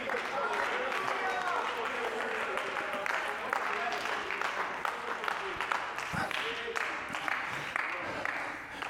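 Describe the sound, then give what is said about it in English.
Scattered hand claps ripple through an audience for several seconds, uneven but steady, with murmuring voices mixed underneath and no single clap standing out. “We have a spattering of hand claps in the house today, but I think it's thundering out in somebody's kitchen or somebody's living room right now.”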